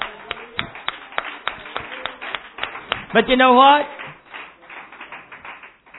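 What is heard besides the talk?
audience clapping hands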